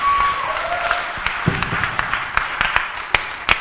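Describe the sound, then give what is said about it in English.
An audience bursts into applause in a clap-off to choose a winner, a dense, steady patter of many hands clapping with a few sharper individual claps standing out, sustained for several seconds. “So now you know how we usually choose winners by doing the clap off.”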